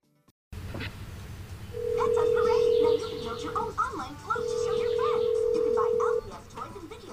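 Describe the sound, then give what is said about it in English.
A phone line rings out with two long, steady ringback tones separated by a short pause as a woman calls her husband, going unanswered, while muffled voices and busy background noise continue underneath. “As we return, Shelley is trying to call Ignatius.”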